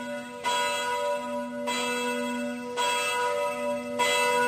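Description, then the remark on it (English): A church bell tolls four times at a steady, slow pace, each loud strike ringing out and overlapping the lingering hum of the one before, with no voices. “It tolls for thee. For whom the bell tolls.”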